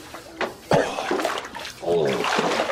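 Sloshing and splashing of bathtub water as a big man shifts and wallows around to wash himself, with irregular surges of movement and a voice briefly audible underneath.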